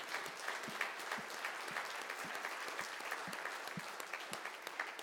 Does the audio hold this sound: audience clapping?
yes